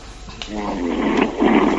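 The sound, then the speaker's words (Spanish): A man calling from Seville snores over a telephone line after falling asleep on the call, with rough, buzzing breaths that swell louder toward the end. The sound is thin and band-limited, like a call. “Está roncando, dejarle, no habéis salto.”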